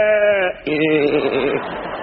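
sheep bleating

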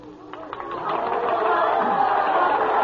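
cheering and applause

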